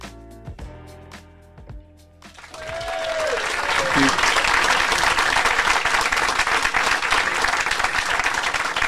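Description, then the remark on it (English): A large live audience at the Hay Festival bursts into sustained, enthusiastic applause after a few seconds of brief tonal music, on an overcast, slightly rainy day, the clapping swelling quickly and staying loud and dense through to the end. “What a lovely applause.”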